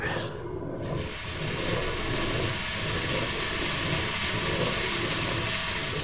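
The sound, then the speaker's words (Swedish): Millstones in a windmill grind grain into flour, the grain poured into a hopper and running down a chute to the stones, with a steady, coarse mechanical rumble, broad and unbroken, carrying a faint rhythmic throb underneath; no voices are heard. “Ljudet av säd som blir till mjöl.”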